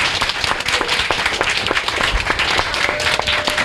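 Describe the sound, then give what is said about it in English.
A crowd applauds the panel members up front, a dense wash of many hands clapping at once with sharp overlapping claps throughout, fairly loud and sustained with no voices standing out. “Hand of applause for my homeboys up here.”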